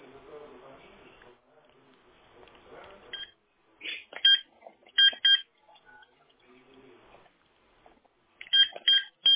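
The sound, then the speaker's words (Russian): Short electronic keypad tones as a phone number is dialed, several crisp beeps in uneven bursts, fairly loud, following a stretch of faint background murmur. “Просто видите, если работает телефон, то интернет тоже должен был появиться. Сейчас наберу.”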